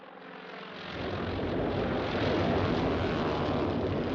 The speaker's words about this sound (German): Hawaii, 7. Dezember 1941. Japanische Flugzeuge bombardieren amerikanische Kriegsschiffe, die vor Pearl Harbor ankern.